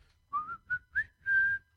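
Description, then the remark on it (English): A short whistled Burger King advertising jingle: three quick rising notes followed by a longer held tone, clear, with no one talking. “Heard someone whistling that, right?”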